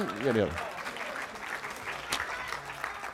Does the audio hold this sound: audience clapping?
yes